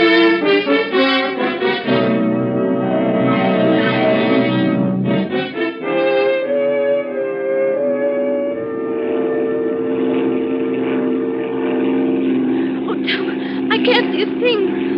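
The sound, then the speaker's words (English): A small propeller plane's engine drones steadily in flight, a continuous buzzing hum running throughout while people talk over it. “I don't need lights to land. We should have come in the boat. No, it's too choppy for a boat.”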